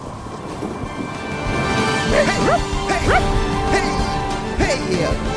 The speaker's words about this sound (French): Oh, oh Clément, mon chien de traîneau. Oui, mon beau chien au poil beau.